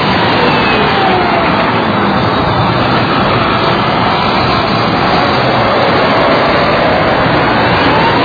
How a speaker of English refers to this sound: They shoot the car. Big smiles on their faces. Here comes the Abrams. Drives over it, then backs back over it. The little car with the family is about a foot high after we're done with it.